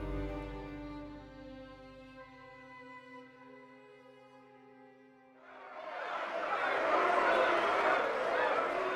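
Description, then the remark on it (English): Sustained, steady musical tones fade out, then a loud roar of a large crowd of members of Parliament in the packed House of Commons swells in: many people jeering and cheering at once, a dense raucous wash of voices. “We're inside the House of Commons. It's packed with members of Parliament. They're jeering, cheering.”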